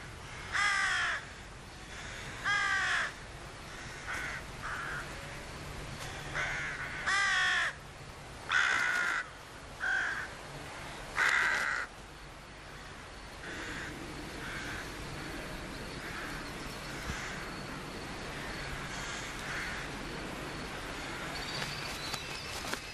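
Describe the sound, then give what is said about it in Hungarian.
Several crows caw at a nesting colony in harsh, repeated bursts, some loud, others overlapping, before the calls thin out into a steady hum of outdoor background. “A varjúfészekben 4-5 tojásból április végén kelnek ki a fiókák.”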